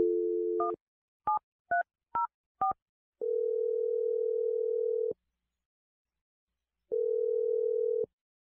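A steady dial tone gives way to five quick keypad beeps as a phone number is punched in for a call from the radio show Brooke and Jeffrey in the Morning, followed by two long ringback tones separated by a pause, clear with no voices.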